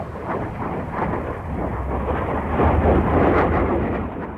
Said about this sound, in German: Ruhig war diese Welt nicht. Regelmäßig donnerten sowjetische Düsenjäger über den Westteil Berlins, durchbrachen die Schallmauer. Fenster barsten.